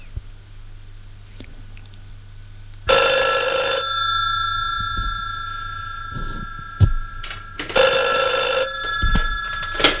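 A telephone rings in two loud, bright bursts, each lasting about a second, separated by a pause with faint low hum and small knocks in between.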